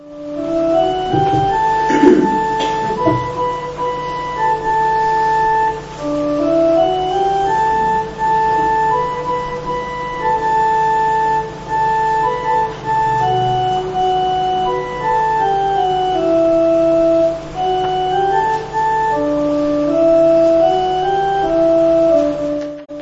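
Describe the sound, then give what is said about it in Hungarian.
A hymn tune played on a keyboard-like instrument with no singing, the melody of a Hungarian hymn about Jesus played so that listeners can learn it before singing. Steady sustained notes move stepwise in a slow, even rhythm, with a few low thumps early on. “Hát akkor megtanuljuk, először hallgassuk akkor meg a dallamát.”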